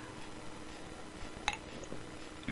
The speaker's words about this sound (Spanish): Disculpen, otro traguito de refresco.